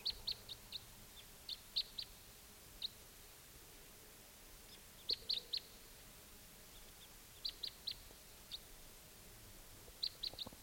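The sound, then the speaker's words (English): Short, sharp high-pitched chip calls of type 2 crossbills, at least two birds, coming in at 6:53 in the morning, in quick clusters of two to four, repeated several times over a quiet, faintly hissing background. “Crossbill's coming.”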